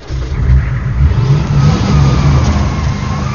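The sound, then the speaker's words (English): A vehicle engine revs with a deep, throaty rumble, holding loud and steady for a few seconds as it accelerates off, with no voices. “Xander waited until it was out of sight before turning to the crowd.”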